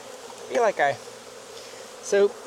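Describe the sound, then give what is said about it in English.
Bees buzz around an open hive during a beekeeper's inspection in three distinct bursts, each a rising and falling drone lasting a fraction of a second, over a low, steady background hum. “So we're a little bit further behind, but there's not as many bees in this hive either.”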